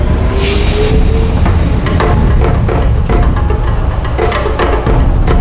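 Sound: train running on rails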